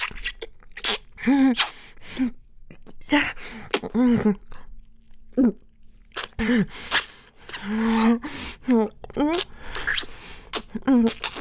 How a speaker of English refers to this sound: Did you want to hear me gulping and swallowing and hungrily forcing it all down?